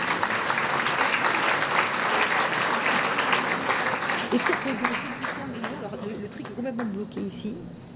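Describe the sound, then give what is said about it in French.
An audience applauds the people who stayed standing, in a dense, steady wash of clapping for several seconds. A voice begins speaking over it as the clapping thins out toward the end. “Moi, je voudrais qu'on applaudisse ceux qui sont restés debout, quand même.”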